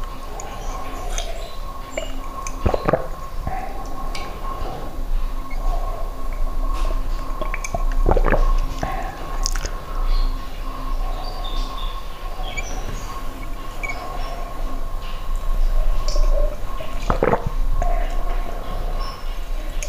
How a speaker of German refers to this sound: Ja, mein Kater spielt mit dem Spiegel am Schrank. So klingt das denn. Quietsch, quietsch, quietsch.